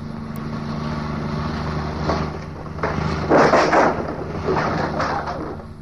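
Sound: car engine driving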